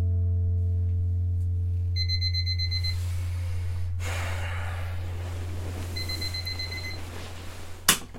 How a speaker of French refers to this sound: Le réveil a sonné à 7 heures.